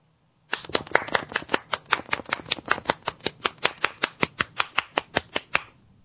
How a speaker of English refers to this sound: Golf clap.